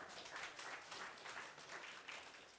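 A crowd claps steadily for a few seconds, dense overlapping hand claps forming a continuous bright, even wash of applause with no voices on top.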